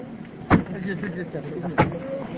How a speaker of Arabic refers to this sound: اجلس انتظر خلنا نسكر الباب. نسكر الباب.